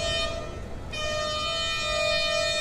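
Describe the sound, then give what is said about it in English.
The horns of an arriving train sound a sustained, steady chord with strong harmonic tones, loud, shifting slightly in pitch partway through over a rumbling low background, at a railway junction outside the city of Sakha in southern Pakistan at 3 a.m. “The horns are from another train, whose arrival inspires the choir to deliver another chorus.”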